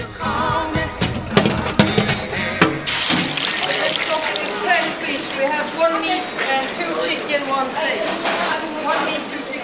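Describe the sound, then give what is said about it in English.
Ocean water sloshes and splashes in the Canadian Arctic in summer as icebergs float by, with a cluster of sharp cracks of breaking ice in the first few seconds, followed by steady churning water and faint voices underneath. “Icebergs float by. Seabirds glide over the surface of the ocean. Ice breaks.”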